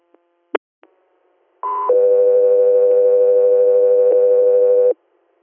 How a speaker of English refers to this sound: Echo 3 Air, stand by for tone.